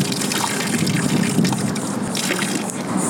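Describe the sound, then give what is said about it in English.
A sampling bailer attached to a sample pack is dipped about 18 inches below the water surface to collect a water sample at Wayside Park on Okaloosa Island, Florida, with a steady sloshing and gurgling that churns on for a few seconds at an even, moderately loud level, with no voices. “I'm going to dip it in the water about 18 inches below the surface to avoid the contaminants like gas, oils, debris, stuff like that.”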